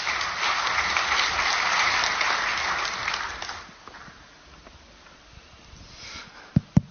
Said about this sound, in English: So give them a round of applause and welcome to stage.